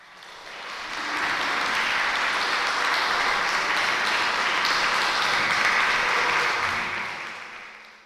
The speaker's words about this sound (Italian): Ed ora, spettatori cari, per riguardo al sommo Giove, un bel applauso!